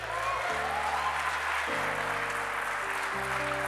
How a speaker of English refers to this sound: You see, all of y'all who just clapped and said you're thankful, you my amen corner.